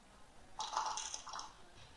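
A brief rattle of dice being shaken and rolled by a smart speaker's dice game, lasting about a second, fairly quiet, with a few clustered clattering bursts and no voices, in a game of betting big or small; the roll comes up 1.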